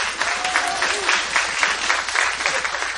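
An audience applauds steadily, a dense wash of many hands clapping at once, fairly loud and sustained with no pauses, a few faint cheers or voices mixed into the noise.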